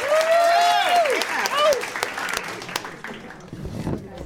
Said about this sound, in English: Thanks to everyone who came out tonight. Let's give another round of applause to all these talented people.